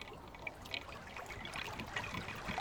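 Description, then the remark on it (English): Continuous sloshing and trickling water with irregular splashes as a person walks up a cold, clear moorland river for a monthly kick sample, rolling over the riverbed to disturb and capture fly larvae, no voices present. “the monthly kick sample in which Dr. Ben Rushbrook walks up the river, rolling over the riverbed to disturb and capture the fly larvae”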